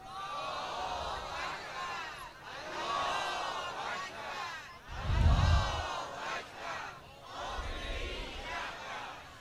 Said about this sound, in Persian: مرد و پیر و جوان با هر رنگ و نژاد و زبان به میدان آمدند و پرچم ایران را روی دست گرفتند و فریاد الله اکبرشون بلند است.